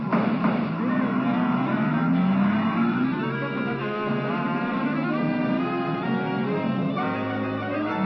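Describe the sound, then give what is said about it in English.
A car engine revs hard, its droning pitch climbing as the vehicle accelerates away, then settling into a steady, loud hum over about eight seconds with no one talking. “Hit that gas.”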